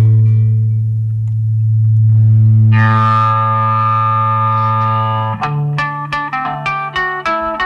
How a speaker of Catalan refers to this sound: aquella cançó que començava amb un acoplo de guitarra provocat.